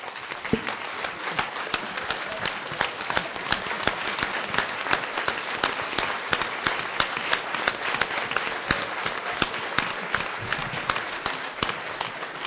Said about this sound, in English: And if you feel the same way, please rise and join me in giving Bishop Hansen an applause.